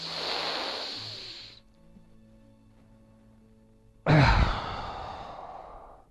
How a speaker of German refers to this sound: Alles gleichzeitig. Atmen.